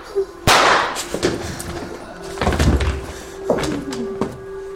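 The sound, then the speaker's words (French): A chair and bodies crash onto the floor as someone dives to knock a woman and her chair down with them: a loud, heavy thud followed by several more knocks and clattering bumps over a few seconds, with a faint steady hum underneath. “J'ai plongé pour faire tomber Ava et sa chaise sur le sol avec moi.”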